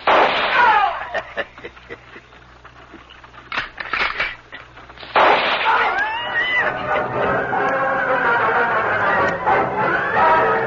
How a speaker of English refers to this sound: Lone Ranger and Tonto were on the wagon trail when they heard the gunfire some distance ahead. Guns mean trouble.